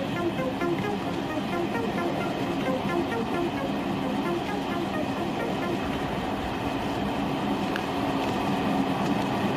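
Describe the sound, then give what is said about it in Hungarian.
A moving train rumbles and clatters steadily throughout, a dense, continuous roar with no pauses or breaks. “Az a baj sajnos, hogy már kinőttem a mozgó vonatról való leugrálást.”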